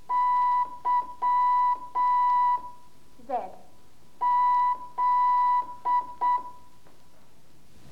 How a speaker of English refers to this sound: Now you know your Morse alphabet by heart